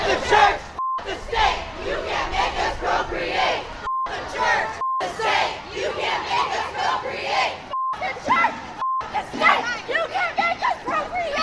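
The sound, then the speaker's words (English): A large crowd of abortion-rights protesters chants loudly in unison, 'beep the church, beep the state, you can't make us procreate', a dense roar of shouting voices, with brief censoring bleep tones cutting in several times between phrases. “That might have been a little hard to hear as the land whales were chanting, but what they were saying was, beep the church, beep the state, you can't make us procreate.”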